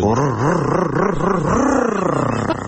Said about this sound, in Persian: راستی موتور رو تقویت کردم برات، گوش کن.